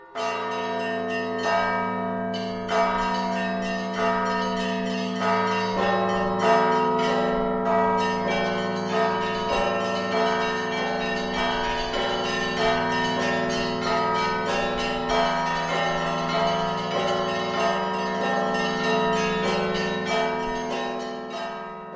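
Three large church bells peal one after another in a set sequence devised by Father Mikhei, deep strikes overlapping into a dense, sustained wash of ringing tones that hangs loud and continuous throughout, with no voices.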